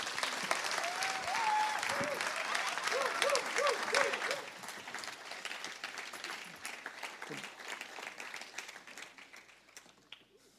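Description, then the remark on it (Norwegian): A crowd applauds with dense, sustained clapping, loud at first and then gradually thinning and fading over about ten seconds, with some voices briefly audible early on. “Veldig bra, nydelig avslutning, det skal vi gi deg en skikkelig applaus.”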